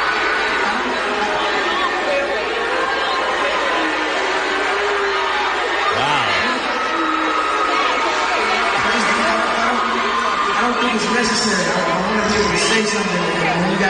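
A large concert crowd of the performer's own fans roars continuously, a dense wall of booing, shouting and screaming that stays loud for the whole stretch, with no single voice standing out.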